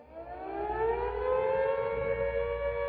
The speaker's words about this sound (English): Oi, can you hear that air raid siren?